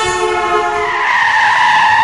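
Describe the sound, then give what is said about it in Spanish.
A car's tires screech loudly and steadily as it skids to a halt, nearly hitting a child who crossed without looking; the harsh squeal holds for about two seconds with no voices present. “Un niño cambió de acero sin mirar y casi le pilla un coche.”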